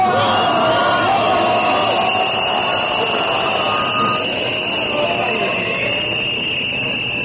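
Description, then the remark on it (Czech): A large protest crowd in Belgrade, at a protest by the civic initiative Ne davimo Beograd calling for a restaurant to be closed, roars continuously outdoors, with dense overlapping voices, shouts and a steady high whistle-like tone running through the loud, unbroken din. “Da čujemo delić atmosfere i deo govora …, također iz građanske inicijative Ne davimo Beograd.”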